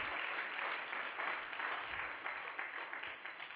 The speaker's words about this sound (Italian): Facciamo un applauso al Signore, cari, va. Alleluia.